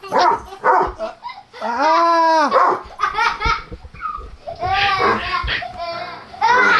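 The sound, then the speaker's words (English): A dog in a room vocalizes loudly in a run of drawn-out, whiny barks and yelps across several seconds, with a child's voice and laughter mixed in. “Okay, we got the dog, we got the kid, everything's happening again.”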